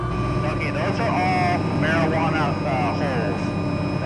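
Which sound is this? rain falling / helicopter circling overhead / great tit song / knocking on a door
helicopter circling overhead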